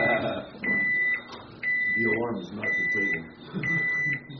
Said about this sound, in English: We don't have the voice. Where's the voice? Intruder. We didn't have the voice. I had him set the alarm off. We're trying to time it right with the conclusion of the prayer, but that was a little tough to do, actually. We wanted the alarm to go off.